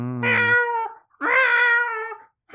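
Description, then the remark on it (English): A person imitates a cat's meow with two long, drawn-out wailing calls, loud, the first starting low and rising; a third call begins just as the sound cuts off. “So the owner, who is called Fred Everett, he woke up because the cat was meowing.”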